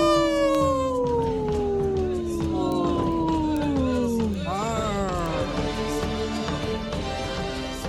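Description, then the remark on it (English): A person howls like a wolf: one long, loud howl slowly sliding down in pitch for about four seconds, then a shorter wavering howl that trails off. “Did you howl”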